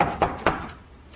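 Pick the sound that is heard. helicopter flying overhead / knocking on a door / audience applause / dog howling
knocking on a door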